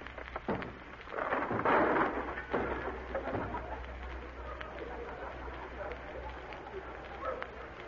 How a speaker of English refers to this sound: Open that door. Open that door, I say. Oh, you will do it, eh? Well, I will break it in. Come on, Sarge, give it the work.